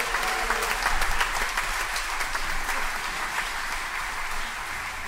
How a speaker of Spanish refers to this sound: Fuerte aplauso.